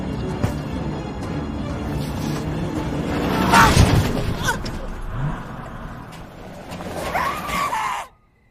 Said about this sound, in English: Behind the wheel of the onrushing truck, Bald Jack grins as he speeds along the track and runs Rustin down.